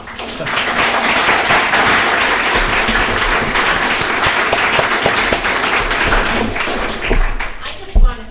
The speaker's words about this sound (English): Well, Well, ladies and gentlemen, people applauded.